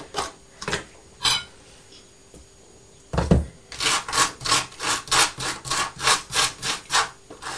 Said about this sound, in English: I like orange marmalade on this. Yes. Mm, sounds like proper toast, that, doesn't it? Crunchy, crispy.